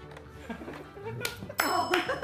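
Three sharp hand claps ring out in quick succession, crisp and fairly loud, with voices murmuring and talking around them.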